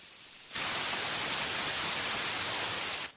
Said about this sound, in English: White noise is more mid-range noise, like this.